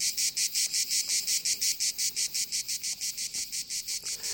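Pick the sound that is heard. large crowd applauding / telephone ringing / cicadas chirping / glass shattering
cicadas chirping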